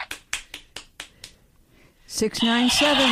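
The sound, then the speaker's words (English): A chicken clucks in a quick run of sharp, evenly spaced bursts, then lets out a loud, drawn-out squawk that fills the last second, with no one talking. “Don't procrastinate. Or you'll hear more chicken.”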